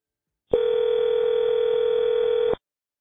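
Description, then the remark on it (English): A telephone dial tone as someone starts calling contacts from the Dixon area hums as one steady, unbroken tone for about two seconds, then cuts off abruptly. Nobody speaks, and no separate dialing beeps are evident. “Lisi started calling his contacts from the Dixon area, and this would be the beginning of the case that I mentioned earlier that would eventually prove all this reporting to be true.”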